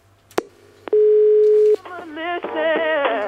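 A click, then a single steady telephone ringback tone lasting under a second, heard when calling a mobile phone on the 3 network, followed immediately by a loud, warbling melodic passage that sounds like a sung or musical jingle.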